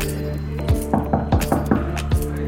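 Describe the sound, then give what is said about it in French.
A series of about seven firm knocks on the door of a student's home, sharp thuds in a quick, slightly uneven rhythm, the last one coming after a short pause, over a steady low background hum. “je pense que c'est cette porte-là. Ouais, c'est ça. On va frapper.”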